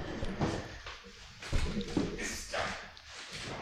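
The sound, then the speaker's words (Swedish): Quick footsteps as someone runs over to a fridge, followed by irregular rustling and clattering as they rummage through it, with soft knocks and shifting items at a moderate level. “springer bort till kylen här och rotar lite grann”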